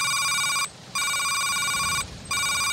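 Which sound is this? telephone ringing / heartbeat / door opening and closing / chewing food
telephone ringing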